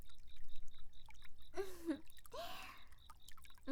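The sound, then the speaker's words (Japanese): Shower water at a bath's washing area pours and splashes in a steady, hissy stream, broken by brief higher gurgling tones and dripping, with no voices over it. “うん、洗い場にシャワーもあるし便利便利。しっかりかけましょうね。”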